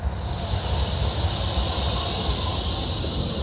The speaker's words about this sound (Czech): Mám tady poznávačku pro tebe, pustím ti zvuk tramvaje, šaliny, a jestli poznáš, která přijíždí.